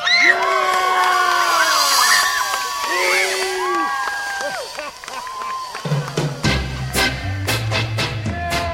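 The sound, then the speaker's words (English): Many children shriek and whoop excitedly together as they race down a long zip line, overlapping high-pitched cries swelling and falling like an outdoor crowd cheering. Toward the end, a rhythmic thumping beat starts underneath. “But in the end, they all scream with exhilaration as they race down the long zip line at the end.”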